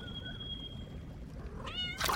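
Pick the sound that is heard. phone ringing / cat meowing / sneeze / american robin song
cat meowing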